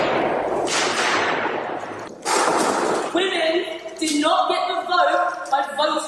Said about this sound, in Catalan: Ara, dos activistes climàtics de Justop Oil han utilitzat dos martells per trencar el vidre que protegeix el retrat de la vella Venus despullada que es mira al mirall.